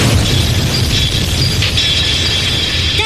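An airplane smashing into a control tower, heard as a loud, continuous roar of rumbling impact noise with crackling, grinding debris layered on top for several seconds, with no voices.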